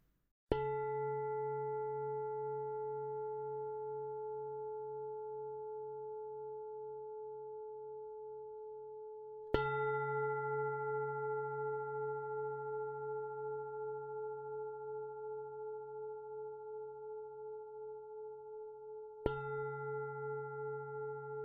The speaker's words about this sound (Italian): Ci prendiamo giusto qualche istante per trovare una postura comoda e confortevole per poi iniziare la pratica al suono delle tre campane.